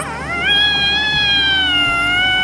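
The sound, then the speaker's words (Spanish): A young cat yowls loudly in one long, drawn-out cry that rises at the start, then holds a strained, steady pitch for about two seconds, with no talking, as a small two-legged human hugs it tightly against its chest. “Pero él tenía miedo a pesar de las valientes palabras de Yunka y aulló con fuerza cuando un pequeño dos piernas lo abrazó estrechamente contra su pecho.”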